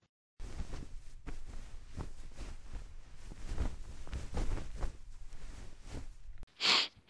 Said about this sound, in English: Oh, what is it now? Why are you coughing and sneezing? You don't have that fucking China SARS, do you?